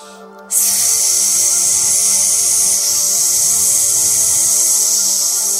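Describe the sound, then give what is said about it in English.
A steady, breathy hiss starts abruptly after a brief quiet moment and holds evenly for about five seconds, a long exhaled S sound made by a human voice during a guided breathing exercise. “And as you do, you might tap on your lungs just very softly, breathing in and breathing out, making the S sound.”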